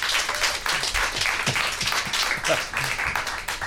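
Steady applause from an audience for a band on stage, dense overlapping claps sustained at an even, fairly loud level throughout, with a few faint voices mixed in underneath.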